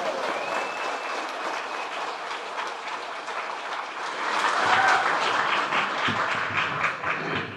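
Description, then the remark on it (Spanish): An audience applauds the organizers of an event gathering clowns and circus artists, a dense wash of many hands clapping that swells louder midway and keeps going throughout, with no one speaking over it. “Y como los payasos son muchos de aplausos, voy a pedir un fuerte aplauso para toda la superorganización de este increíble evento.”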